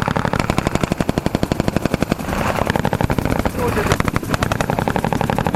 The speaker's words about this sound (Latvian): Mācība demonstrējums, uz kuru sapulcējušies 10 žurnālisti, sākas pēkšņi, bez kāda īpaša brīdinājuma. Šāvienu trokšņi, piebrauc vairāki džipi, karavīri izpilda mācību operāciju, lai atgūtu ienaidnieka ieņemtas ēkas.